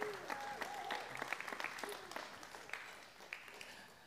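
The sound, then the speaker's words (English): An audience breaks into steady applause, a hand clap of praise to the Lord, many hands clapping in a dense, crackling wash that stays fairly even in loudness, with a few sharper claps standing out and faint voices and cheers mixed in. “Come on, give the Lord another hand clap of praise.”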